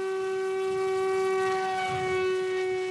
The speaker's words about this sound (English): He's standing on a gravel road surrounded by miles of sagebrush southeast of Steamboat Springs. Prop clear. After one last check with his team, he launches a small 4-pound Raven A drone into the wind.